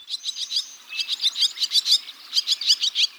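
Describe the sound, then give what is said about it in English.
Barn swallows twitter in quick bursts of high, chattering chirps, several birds overlapping in a busy, rapid rhythm, with no voices present. “Well, in a single summer day, the barn swallow, like the ones we're hearing, consumes about 850 insects.”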